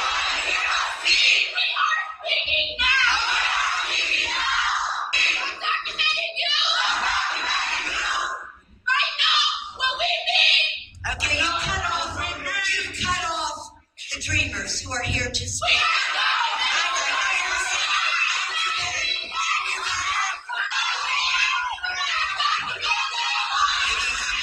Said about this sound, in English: Honestly, shrieking uncivil mob. And this is going on all over the country.